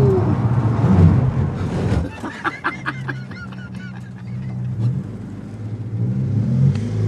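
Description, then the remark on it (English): A rally car's engine roars on a 14-corner, 1.1-kilometre course, then tires chirp and squeal through a sharp handbrake turn in the last corner before the engine drops to a low, sputtering rumble as it stalls at the finish. “What we just did for a little bit of a handbrake turn there at the end, you know, a little bit of a stall for the finish.”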